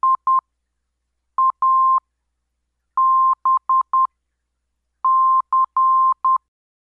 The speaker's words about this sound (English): Localizer identification consists of a four-letter identifier and always have the letter I as the first letter in the group. The identifier is transmitted in Morse code on the localizer frequency.